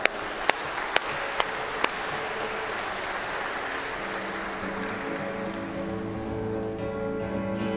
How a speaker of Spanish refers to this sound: Feliz de las Madres. Un aplauso para ellas.